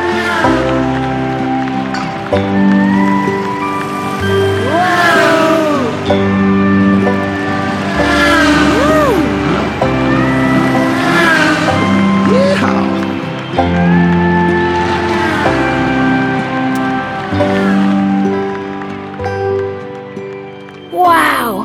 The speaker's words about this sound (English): Race cars sure are fast. You said it. Race cars can go over 200 miles per hour, which is nearly 3 times faster than a cheetah can run.